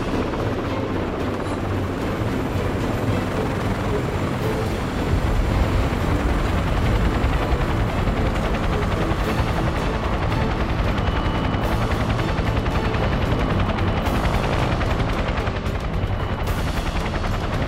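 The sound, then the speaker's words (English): A helicopter sets down lightly in the center of a helipad, its rotor chopping loudly and steadily with a heavy engine roar that fills the whole stretch, no voices. “We set down light in the center of the helipad.”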